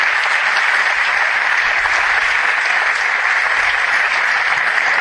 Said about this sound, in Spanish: Un fuerte aplauso